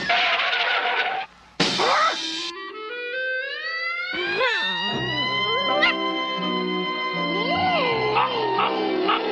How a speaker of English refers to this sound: Well, I'll be. That's a girl dog.